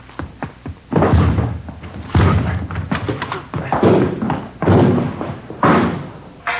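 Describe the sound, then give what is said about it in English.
Police officers force open the door of a residence: a series of about five loud, heavy thuds and crashing blows at uneven intervals, with a few light knocks before the first hit. “All right, let's go. Hit the door.”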